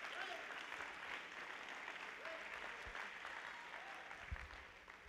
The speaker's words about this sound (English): Come on, clap your hands and give God praise. Give Him some praise.